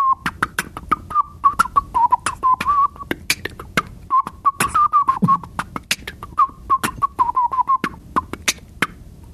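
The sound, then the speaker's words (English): A wavering whistled melody runs nearly nonstop while sharp beatboxed clicks, snares and low thumps keep a quick, steady rhythm, fairly loud, with one mouth doing both at once. “And I've been trying to incorporate whistling into beatboxing recently, which sounds like...”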